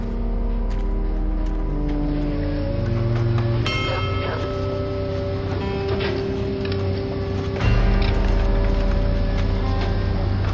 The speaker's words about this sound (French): À une centaine de mètres de là, les excavatrices poursuivaient avec précaution leur travail dans le cratère, creusant et dégageant les gravats à la recherche des dernières personnes manquantes.